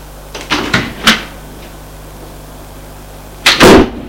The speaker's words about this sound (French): Une porte qui a claqué.